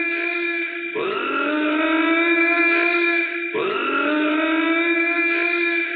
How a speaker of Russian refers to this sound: Вы знаете, по всему зданию какой-то зуммер появился. По громкоговорящей связи.